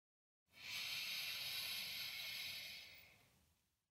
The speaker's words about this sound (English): With a soft belly, breathing in and breathing out. Breathing in.